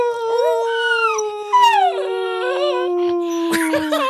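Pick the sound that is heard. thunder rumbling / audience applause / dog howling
dog howling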